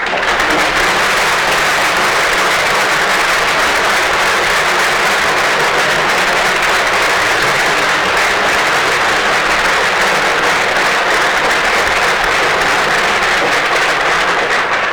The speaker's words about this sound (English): let's give them a round of applause as well for supporting us here at Academy.